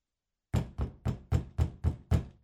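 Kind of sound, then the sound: household object, knocking on a door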